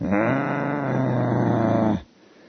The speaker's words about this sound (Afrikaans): En die een opname wat ek maak, nou hoor ek die hond hier buiten by die venster.